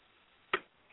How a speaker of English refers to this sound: Got that stupid ding-ding sound on my phone.